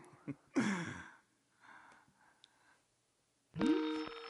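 A phone call connecting on the Cheesehead TV postgame show's call-in line: two bursts of electronic tone, each opening with a quick upward sweep. The second settles into a steady, buzzy beep, with faint breathy noise in between.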